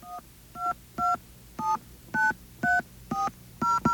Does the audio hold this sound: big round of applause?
no